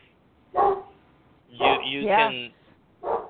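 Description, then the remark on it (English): A dog barks in three loud bursts: a short bark, then a longer run of yelping barks with wavering, rising pitch, then one more short bark. “Someone needs to give that dog a biscuit.”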